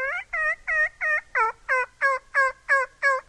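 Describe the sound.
A turkey caller produces about ten evenly spaced, raspy yelps imitating young turkey hens, loud in a steady rhythm, with no talking.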